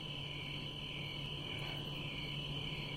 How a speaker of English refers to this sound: Do you hear these crickets? Listen to this. Oh, they stopped. It skips and then it goes again. That's kind of exciting.